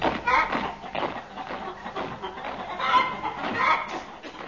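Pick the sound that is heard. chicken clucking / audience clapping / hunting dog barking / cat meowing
chicken clucking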